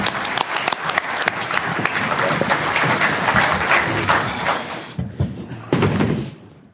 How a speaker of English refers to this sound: Let's give our panel members a round of applause.